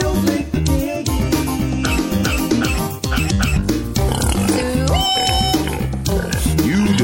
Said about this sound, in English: Pig.